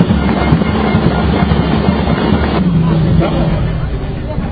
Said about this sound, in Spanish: se ha logrado instaurar el Día de los Porteros, así que pido un fuerte aplauso para todos los porteros.